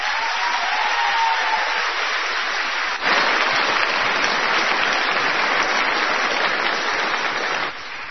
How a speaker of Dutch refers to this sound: Er is een paar keer voor de muziek geklapt. Ik vind het ook gewoon fijn als er één keer voor dit stel mensen klappen, vinden jullie dat?